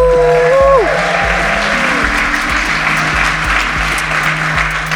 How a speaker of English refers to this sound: We can add more clapping and we'll add more clapping. We'll sweeten the clapping. Don't worry.